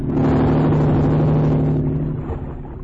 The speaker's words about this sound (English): There's a speedboat. It's going away. I guess whoever was driving it saw the boat from the lodge.